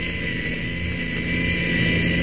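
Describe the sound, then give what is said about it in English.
An old airplane engine, fitted with a self-starter, is started by the pilot, turns over and settles into a steady, rumbling drone with a whirring buzz on top, growing slightly louder toward the end. No voices. “if you'll just let me get to the pilot's seat, I'll start her up”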